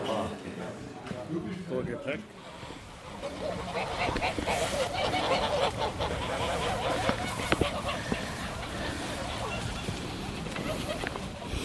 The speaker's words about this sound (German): So, ich bin ja bei meinen gefiederten Freunden, den Gänsen, die schon Weihnachten und der Novemberzeit entgegenfiebern.